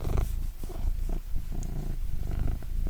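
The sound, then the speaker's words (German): A domestic cat purrs steadily, a low continuous rumble with a soft rhythmic pulse, heard alone without any talking. “Kann die Katze mal schnurren?”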